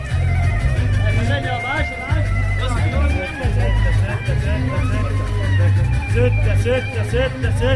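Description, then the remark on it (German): Dense street ambience on the large boulevards of a city of millions, with a steady low rumble of traffic and engines, overlaid by a continuous babble of many voices from a bustling crowd. “Der verlassene Märtyrerplatz wird von Putzequipen gereinigt und auf den großen Boulevards der Millionenstadt rollt oder staut sich der Verkehr wie üblich.”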